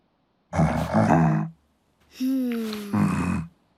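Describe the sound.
Two loud, rough bear growls in quick succession, each lasting about a second, the second one drawn out with a slowly falling pitch, with no talking.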